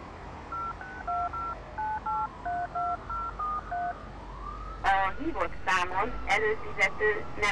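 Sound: telephone keypad dialing tones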